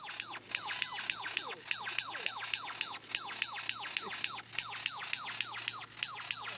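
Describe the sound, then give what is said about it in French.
A bird imitating human-made sounds rapidly repeats high, downward-sweeping chirps like a children's toy gun or video game's "pew pew," dozens of zaps in a steady, fairly loud stream over a faint background hum. “En fait, je pense on dirait un peu genre les pistolets, genre pour c'est enfants, vous savez, ouais. Qui font piou, piou, piou, ouais, piou.”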